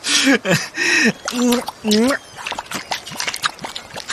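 A few short, pitched vocal sounds give way to a quick, irregular run of soft, wet smacks and sucking squelches as feet press into soggy mudflat sand during a mudflat hike on the North Sea coast.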